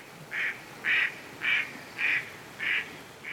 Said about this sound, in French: Les canards colverts vous accompagnent tout le long du sentier dans le parc. Ce sont les stars du village.